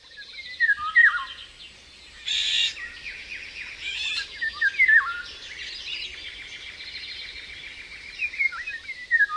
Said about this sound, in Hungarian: Rigó.